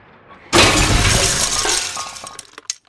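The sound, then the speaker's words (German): A heavy crash as a wood, glass and iron grandfather clock in an entrance hall wobbles and topples forward, glass shattering loudly all at once, then a rattle of scattered pieces and a few last tinkling clinks as it settles. “Die wackelte hin und her und schließlich kippte sie vornüber.”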